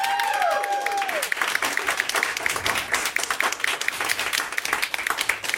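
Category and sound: crowd, audience applause and clapping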